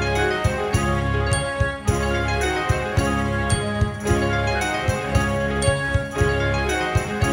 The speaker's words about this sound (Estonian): Aga nüüd head inimesed paneksin mängima natukseks ühe muusikapala ja siis tuleb sõnumitooja Valgevenest.